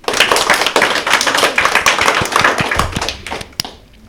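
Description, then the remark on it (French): A crowd applauds loudly for three primary-school pupils being introduced, a dense rush of many overlapping claps that holds steady for a few seconds before thinning out to a last few scattered claps and fading. “Applaudissez-les bien fort.”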